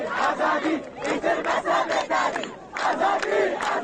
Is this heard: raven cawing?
no